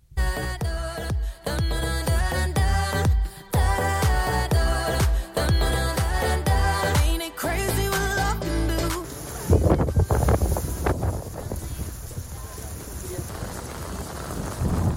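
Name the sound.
wind and rain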